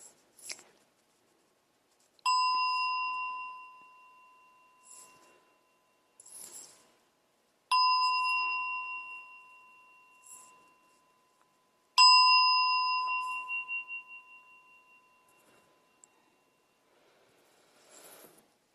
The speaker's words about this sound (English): All right, so in my tradition, I do the bells 3 times to start and 1 to end, and I'll lead a little bit of meditation. All right, here we go.